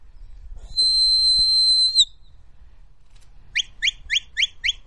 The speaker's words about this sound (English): That's a signal for the dog to move right. The sheep are in the distance. The dog will get around the back of them and stop them towards us. Each whistle is a particular direction to the dog.